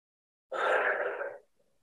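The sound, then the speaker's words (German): A single loud, breathy exhale during a breathing exercise, rushing out for about a second after a brief silence, then fading into a faint trailing breath. No one speaks. “Gehen dann nochmal wieder runter, atmen richtig laut aus.”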